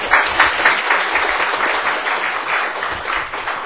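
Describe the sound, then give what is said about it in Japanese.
A room full of people at a church service breaks into steady applause welcoming two new members, dense overlapping claps sustained at an even level for several seconds, with no voices standing out. “拍手を持っておいてください。”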